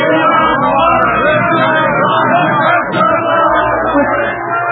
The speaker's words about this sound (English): Well, they seem to be cheering for you, Professor. Me? Why? What is this? What have they got out there? Sounds like there are a million of them. There are exactly 97 of them.